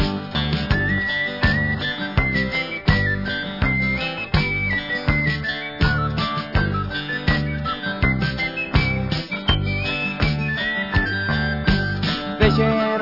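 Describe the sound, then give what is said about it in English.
A bright whistled melody rides over a full band with a steady drum beat and bass, the tune carrying clearly on top throughout. No one speaks or sings. “Then we'll whistle and go fishing in the heaven.”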